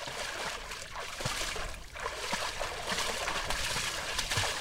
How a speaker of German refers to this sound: Ein paar Tümpel sind die Reste eines Sees. Kamele mampfen die Wasserpflanzen.